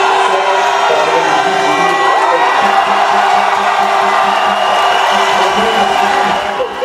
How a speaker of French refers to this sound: Le président candidat a suivi en direct sur écran géant l'annonce de ses résultats provisoires. La foule a exulté dès que le score final de Oligui Nguema a été prononcé.